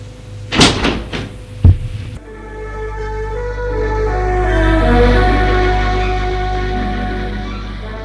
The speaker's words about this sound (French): Elle ouvre la porte.